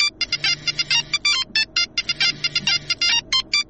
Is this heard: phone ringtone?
yes